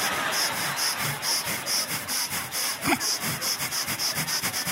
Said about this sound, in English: And I'm like, oh, I'm getting my breathing in. See, because the average human takes 20,000 breaths a day. So I don't really want to be bothered with breathing later in the day because I'm real busy later today.